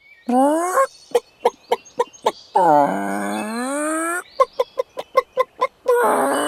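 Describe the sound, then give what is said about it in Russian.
Rooster crowing in drawn-out, harmonic calls, three bursts in all, with a quick run of sharp, evenly spaced clicks between them. Loud, no talking. “Услыхала, как петух песни поет.”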